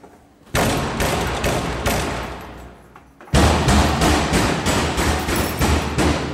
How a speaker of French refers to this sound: Là, il y en a un qui cogne contre sa porte.